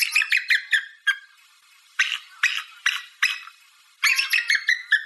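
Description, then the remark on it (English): An eagle calls with a quick run of high, piping chirps, a few spaced harsher squeals, then another rapid chittering burst, fairly loud, with no talking. “can you make the sound of an eagle for us right now?”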